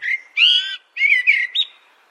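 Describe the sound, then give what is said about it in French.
A common blackbird sings a few rich, fluting phrases with short pauses between them, clear, with no voices or other noise around it. “Des études ont montré que les merles urbains se mettaient à chanter bien plus tôt que les merles ruraux.”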